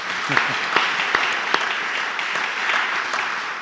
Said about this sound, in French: On peut vous applaudir.